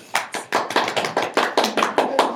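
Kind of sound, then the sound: crowd, applause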